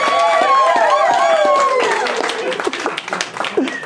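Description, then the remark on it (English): A crowd, asked to try its applause again, bursts into loud applause, dense clapping mixed with high whoops and cheering voices, then the clapping thins and tapers off toward the end. “Okay, we're going to try that again, because that was a smattering of applause.”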